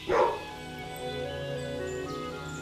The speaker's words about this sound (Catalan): El gos va contestar amb un lladruc fosc, de pocs amics.